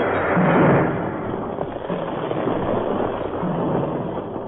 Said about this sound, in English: The explosion knocked Jerry from his feet. And at the same instant, the earth seemed to shudder and crumble with the impact of the blast.